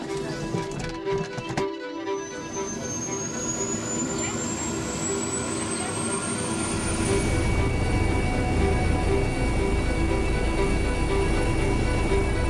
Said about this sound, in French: L'hélicoptère fait route vers l'hôpital Édouard Herriot.